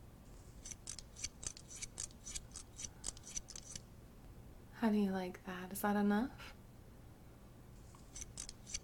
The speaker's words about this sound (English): Let's do the top with the scissors.